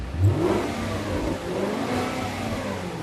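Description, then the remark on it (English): The engine of a newly received dream car revs loudly and steadily, a deep rumbling growl with rising harmonic tones that holds strong for a few seconds with no talking. “It's a good feeling for the Philadelphia native who gets the car of his dreams.”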